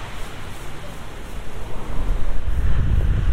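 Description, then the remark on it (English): Strong wind roars across an open seaside, buffeting the microphone with a broad, rumbling rush that swells louder toward the end, with no voices. “Right, okay, it's quite windy here, but I'll just keep trying to walk.”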